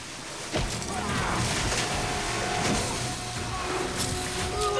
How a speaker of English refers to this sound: He sends Piper flying back with a vicious punch to the face. Then the two men exchange blows in the shallow water.